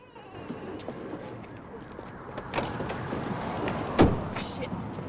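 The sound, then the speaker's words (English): A car rumbles to a stop in a car park, then its doors open and shut as the occupants get out: a lighter clunk followed by a heavy, sharp slam, with faint shuffling and voices beneath the engine noise. “They pull up in the car park and get out.”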